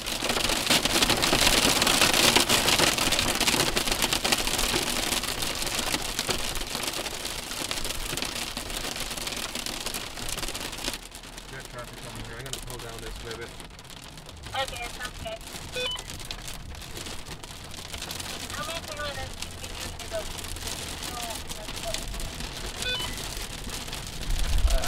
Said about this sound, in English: We are stopped at the side of a small dirt road in Kansas underneath a large rotating thunderstorm.